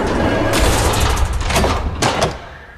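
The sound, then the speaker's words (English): One of a pair of double doors in a corridor is pushed shut with a few loud knocks and thuds over a continuous rumbling background, the last impact followed by the noise fading slightly. “She reaches it and closes it.”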